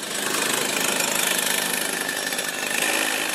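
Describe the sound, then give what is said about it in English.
A go-kart engine is warmed up before a practice session, buzzing loudly and steadily: a harsh, raspy drone that holds at a constant roar for a few seconds with no voices. “warms the kart engine up before another practice.”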